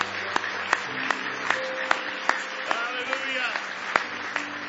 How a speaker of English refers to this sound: Somebody say praise the Lord. Now give Him one more hand clap of praise if you love Him tonight.